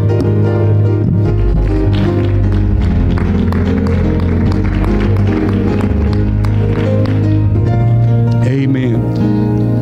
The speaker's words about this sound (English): As we're seated, let's clap our hands and give the Lord honor and praise.